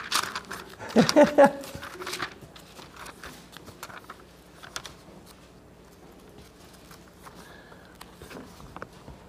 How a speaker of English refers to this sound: I've been back into using a paper Bible, so now I get to turn pages.